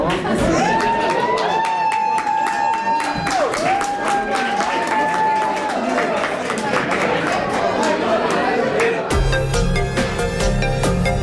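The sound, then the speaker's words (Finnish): An audience applauds loudly and steadily while people shout and cheer, with a long, high, held cry running over the clapping; the crowd noise shifts and thickens toward the end. “Muutaman sekunnin seesteinen epämääräisyys päättyi lopulta huutoihin ja aplodeihin.”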